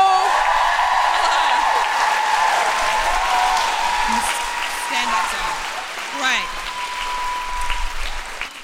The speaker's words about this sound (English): Please clap your hands and make huge Guilty Feminist woo-hooing noises for the wonderful Rose Mattafeo!